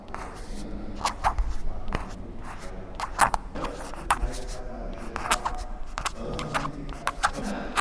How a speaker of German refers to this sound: Hier hören Sie das Kratzen der Feder auf Papier. Man hat früher die Federn immer anschneiden müssen. Man hat dann eben einen Längsschnitt gemacht am Federkiel.